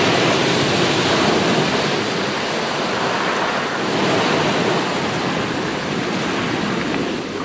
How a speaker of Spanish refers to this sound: Como también son muy visitadas durante el invierno, por tratarse de unas privilegiadas plataformas adelantadas que permiten observar muy de cerca la fuerza de las olas rompiendo contra las rocas.